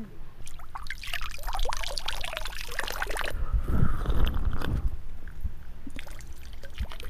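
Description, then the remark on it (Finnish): Spring water is scooped up with a splash, then poured out in a steady splashing stream for a few seconds before trickling off, fairly loud, with no talking. “Otetaan, maistetaan tuota vettä.”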